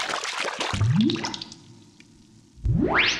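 A brief burst of splashing water, followed by a rising bubbly whoosh that holds steady, then another quick upward sweep, like something plunging into a bathtub and popping back up. No one speaks.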